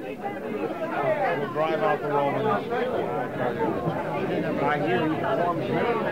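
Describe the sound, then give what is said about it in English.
A crowd just entering a street chatters: a dense, continuous babble of many overlapping voices, with no single speaker standing out, holding a fairly steady, moderate loudness throughout. “Here comes the crowd now. If you listen, you can hear them. They are just entering this street now.”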